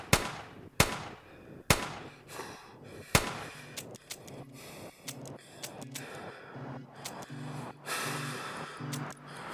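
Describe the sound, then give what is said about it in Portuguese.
Several revolver shots are fired at a man sitting in his car, three sharp bangs spaced about a second apart followed by a run of quicker, quieter cracks as the cylinder is emptied, with no talking. “Ele começa a dizer algo, mas é interrompido pelo primeiro tiro dado no seu rosto. O estampido não é muito forte. Esvazia o tambor.”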